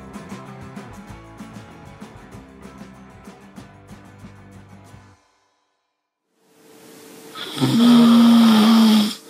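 A person lets out a loud, rasping snore, a single drawn-out breath close to the mic, following a few seconds of music and a brief silence.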